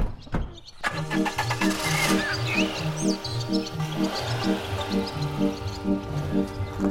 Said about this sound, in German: Früh am Morgen fahren Sascha und Richard die Straße nach Königs Wusterhausen entlang, in einem klitzekleinen Auto.